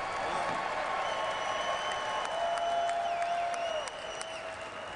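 Sustained applause and cheering from a large crowd, a dense steady roar of clapping with whistles and shouts rising over it, easing slightly near the end.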